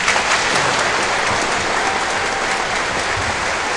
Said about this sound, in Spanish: Para los campeones del Rally Sprint. Nos faltaban los aplausos. Tiene razón. Mira, la gente como se están creciendo, ¿eh? Está todo el público aplaudiendo.